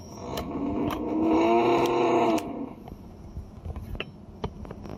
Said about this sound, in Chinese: 如果你有室友平时喜欢打呼噜，仔细观察的话，你会发现他们打呼噜是这样子的。